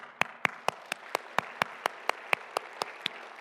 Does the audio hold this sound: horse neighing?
no